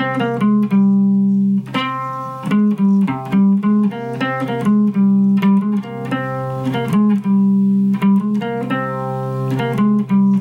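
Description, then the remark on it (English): A dark, Phrygian-like scale played as a steady run of loud, sustained tones with rich overtones, the notes stepping one after another without pause and no voices. “So in review, the four modes are this one, this dark sort of Phrygian sounding one.”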